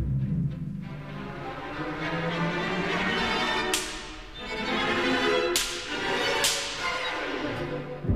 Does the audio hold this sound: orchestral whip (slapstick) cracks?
yes